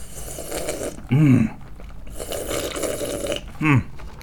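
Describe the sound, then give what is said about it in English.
Long, airy slurping sips of iced tea, each followed by a short, louder throaty gulp, repeated twice with no talking. “So instead, I think I'll have a nice sip of this iced tea I have here.”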